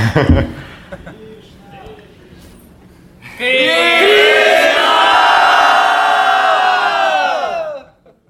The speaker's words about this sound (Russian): А даже если понимает, что ну, все равно не видит, ну, полезно крикнуть. Можно крикнуть. Лучше крикнуть. Давайте крикнем.